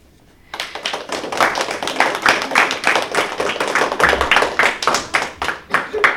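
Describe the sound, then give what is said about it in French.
A class of CM primary pupils from the école Paul Angevin applauds together on the Bubble Radio show Bubble Game, a burst of lively clapping that starts abruptly and keeps a steady, slightly uneven rhythm until the end. “On peut les applaudir.”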